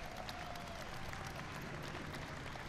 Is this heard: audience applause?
yes